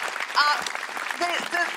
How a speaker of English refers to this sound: Can I have a huge round of applause for my amazing co-pilot, Sarah Pascoe?